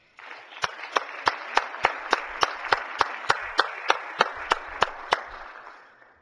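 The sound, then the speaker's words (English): Applause from a group fills the Missouri Senate chamber for about six seconds, welcoming guests including Representative Knutson and former Representative Hosmer. A steady wash of clapping is punctuated by sharp, evenly spaced claps in a quick rhythm, then it fades out. “I wish the Missouri Senate would give them a nice round of applause.”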